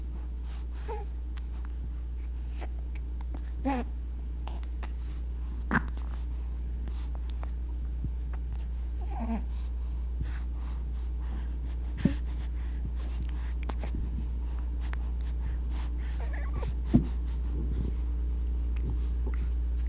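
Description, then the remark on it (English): An infant being diapered after a bath makes scattered soft grunts from the back of the throat and heavy breathy noises over a steady low hum, with occasional clicks and bumps as it flails its arms and kicks its legs. The sounds are quiet and irregular. “Most of the sounds are in the back of the throat, and there's a lot of breathing being done.”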